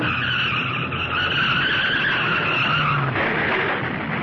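A motorbike skids out of control as its blinded rider loses control and smashes into a packing crate, its tires letting out a loud, continuous high screech over a low engine rumble, the sound shifting abruptly about three seconds in.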